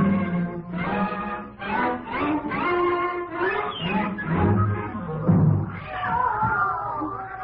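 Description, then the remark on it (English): A chorus of many brown, black and white cats meowing at once in cages at a cat pound, overlapping yowls rising and falling in pitch without pause, fairly loud, with no one speaking. “I've never seen so many cats in my life.”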